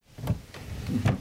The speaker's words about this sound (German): Vorsichtig, langsam zieht er eine Schublade aus dem Schreibtisch des toten Sohnes.